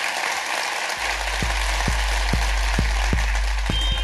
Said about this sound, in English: Ladies and gentlemen, give a massive round of applause to Beck Hill.